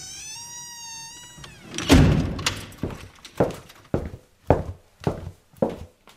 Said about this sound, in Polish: Zobacz, czy pan drzwi zamknął za sobą.